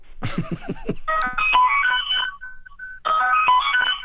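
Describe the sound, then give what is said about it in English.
A bright, synth-like melody resembling a phone ringtone, played on an instrument, sounds loud in quick stepping notes, in two phrases with a short gap between, after a brief harmonic burst at the start. “Is that a ringtone?”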